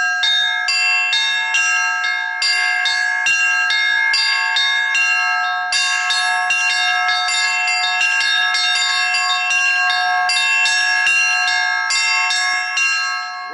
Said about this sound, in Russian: Уникальную возможность испытать себя в роли звонаря, да еще в таком знаковом для православного человека месте, владыка Роман не упустил.